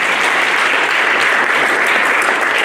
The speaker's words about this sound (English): I'd like to give him a round of applause, please.